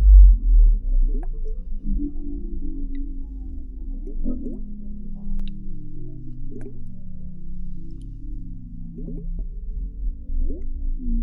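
Scattered water drips, short and plinking at irregular intervals, over a low, slowly sweeping drone that sounds like it's underwater, with no voices.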